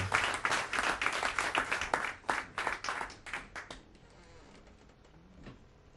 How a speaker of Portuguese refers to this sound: Queria convidar um grande artista angolano a estar aqui hoje. Mr. Canda, um grande aplauso, um orgulho ter aqui.